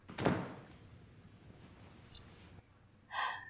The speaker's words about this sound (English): They bang their head on top of something again.